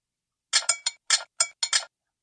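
A teacup rattles against its saucer as a man's trembling hand tries to set it down after a meal, in a quick burst of about seven bright, high clinks, uneven in spacing and moderately loud, with silence between them and no talking.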